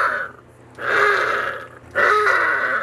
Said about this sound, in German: die Jungen, die auch Heuler genannt werden. Denn so hören sie sich an.